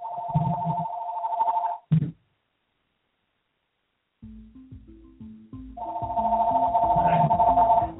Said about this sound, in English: Just a second, my phone is ringing. It should never be ringing.